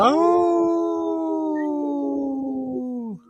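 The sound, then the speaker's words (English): A single long, mournful wolf howl held steady for about three seconds, loud, sliding slightly lower in pitch before cutting off abruptly. No talking. “we speak wolf now. We go, ooh.”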